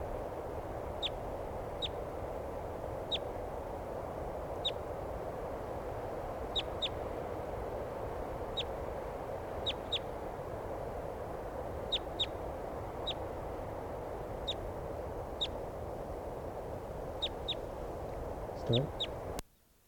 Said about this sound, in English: Okay, here's another wild bird. Maybe the same one, I'm not sure.